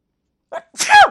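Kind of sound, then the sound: human body sound, human sneeze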